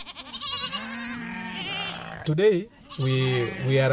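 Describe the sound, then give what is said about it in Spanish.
A herd of goats bleats over one another in a steady, overlapping chorus, the wavering cries fairly loud, with a sharper, louder bleat cutting through midway; the goats are being vaccinated against lumpy skin disease by a veterinarian in Asilong, near the Kenya–Uganda border. “El veterinario va camino a una reunión importante con un rebaño de cabras.”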